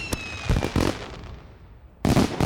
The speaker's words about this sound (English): Yay! Or launching those celebratory fireworks.